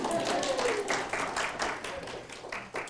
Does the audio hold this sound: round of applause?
yes